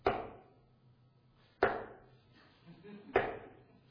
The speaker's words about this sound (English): Have you ever thought of that when somebody knocks at the door? Is it a knock you want to respond to or not?